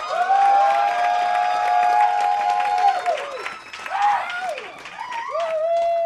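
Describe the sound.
At a comedy show, an audience picking a favorite comedian by applause bursts into sustained applause with loud whoops and cheering voices rising above the clapping, a dense, lively crowd reaction lasting several seconds.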